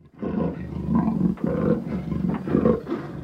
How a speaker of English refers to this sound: What animal was that? It was a leopard. It eats birds.